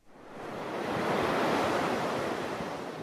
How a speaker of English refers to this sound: We usually hear the ocean when it meets the land, where waves roll up onto the beach.